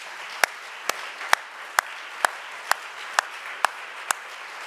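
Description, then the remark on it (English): A church audience claps hands to God in a steady rhythm, sharp beats landing about twice a second over a continuous wash of scattered applause. No one speaks. “Could we clap our hands to him right now?”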